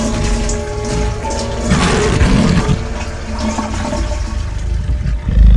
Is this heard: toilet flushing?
yes